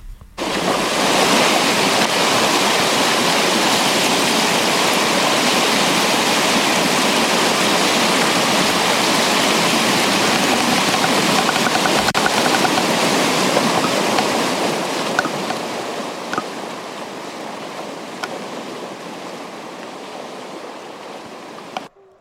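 A steady roar of wind in Prekmurje that sounds like sea surf, loud and broad, rushing without pause, then easing slightly and thinning out toward the end. No voices.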